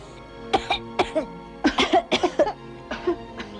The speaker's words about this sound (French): Respire. Le médecin avait diagnostiqué une pleurésie de la plus méchante espèce. Respire plus fort. Tousse.